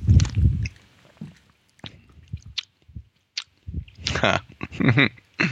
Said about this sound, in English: Hold on, I'm gonna take a sip.